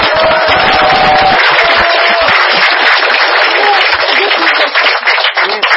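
A group on an organized trip applauds a man who made the trip possible: a steady, dense wash of many hands clapping that holds loud for several seconds, with a few faint whistles or cheers poking through near the start and middle.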